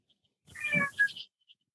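A cat on a table, trying to eat an apple, gives a single drawn-out meow, rising and then falling, followed by a brief chirp and then a sudden loud noise at the very end.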